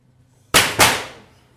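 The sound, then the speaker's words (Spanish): Two loud, sharp gunshots from a firing squad crack in quick succession, the second following about a quarter second after the first, each trailing off in a ringing decay. No one speaks. “Fusílamelo.”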